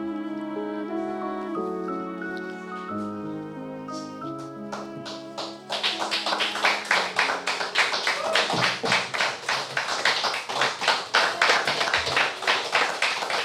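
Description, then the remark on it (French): A few seconds of soft melodic notes give way to loud, sustained applause from a crowd, many hands clapping densely with a slightly pulsing rhythm until the end. “La foule est en délire.”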